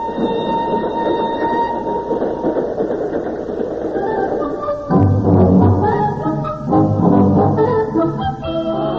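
A train rolls steadily along the rails with a loud, continuous rumble, joined about halfway through by shrill, sustained wheel squeals and metallic whining. No one speaks.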